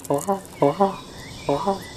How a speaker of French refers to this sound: Vous verrez, enfin en écoutant bien sûr, pourquoi nous avons débuté par le crapaud.